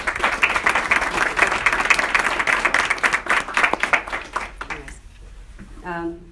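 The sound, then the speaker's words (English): An audience applauds the team in a dense, steady wash of many hands clapping for about five seconds. The clapping fades out and a voice begins to speak. “An applause for the team.”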